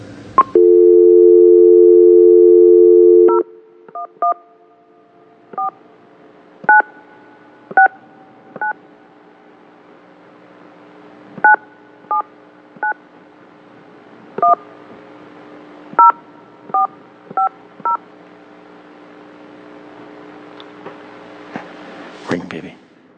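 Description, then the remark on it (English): A steady dial tone plays for a few seconds, then stops. A long series of short, crisp touch-tone beeps follows at an uneven pace, dialing a phone number in Germany, clear. “I could have just called and start the interview, but I've got to try to dial it, of course, you know, see if I can screw it up on the air.”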